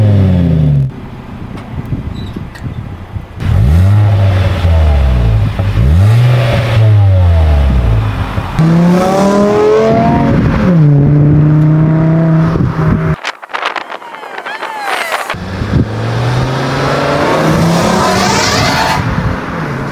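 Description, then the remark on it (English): A car engine revs hard through a loud valved exhaust, whose muffler valve can be opened or closed to make it louder or quieter. The revs come in a series of rising and falling blips, with a short pause before another burst of revving. No one speaks. “pretty much you're able to open and close the valve on the muffler. This will make it either louder or quieter based off what you want.”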